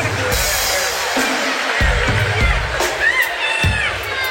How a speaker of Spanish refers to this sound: Un aplauso para mi amigo el pajero.